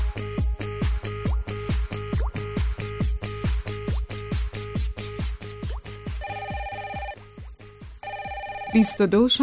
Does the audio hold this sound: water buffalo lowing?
no